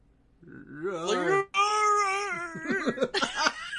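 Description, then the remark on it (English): A person imitates an animal roar that comes out small and cat-like, a wavering, pitched growl in two fairly loud bursts split by a brief gap. “You want to hear my roar? I think I just heard it. It sounded more like a purr.”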